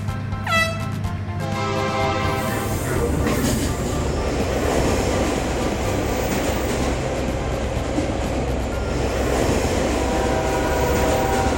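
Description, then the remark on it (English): A train rushes past as the trains Donald and Benny race, with a loud, continuous rumble and rattle of wheels on rails, opening with a brief horn-like tone and sustained clatter throughout. “We have slow trains like Donald, and fast trains like Benny.”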